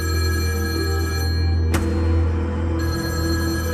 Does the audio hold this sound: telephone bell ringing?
yes